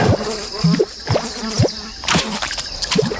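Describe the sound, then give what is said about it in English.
A fly buzzes steadily throughout while wet smacking and dripping-like sounds repeat every half second or so, as a lizard eats the fly. No one speaks. “It's eating the fly, that eating one. Eating the fly that's that flying think, around.”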